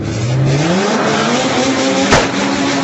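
Loud racing car engines roar and rev continuously at the IDRC 2001 season opener race, with rising harmonic pitch as a car accelerates, plus a brief sharp burst near the end. No voices are heard.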